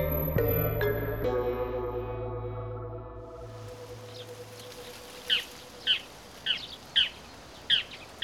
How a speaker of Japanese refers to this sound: ああ、とうとう冬鳥も渡ってくる時期になったわね。